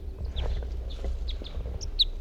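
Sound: male bird singing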